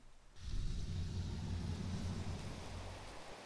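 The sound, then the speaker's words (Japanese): Heavy rain starts abruptly after a brief quiet moment, then pours in a steady, dense hiss with a low rumbling undertone, holding a constant loud level throughout with no voices. “あれ、雨降ってない？ほら、この音。いや、雨降ってるって。”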